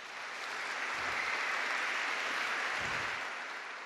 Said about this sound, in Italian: Ma io vi invito a fare un omaggio a loro con un bel applauso.